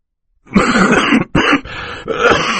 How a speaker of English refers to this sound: coughing into a white handkerchief